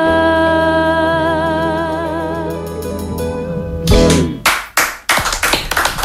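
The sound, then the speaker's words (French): A sustained, tonal musical passage fades as a burst of audience applause breaks out, loud, with uneven waves of clapping filling the final couple of seconds. “Voilà, on applaudit donc très fort”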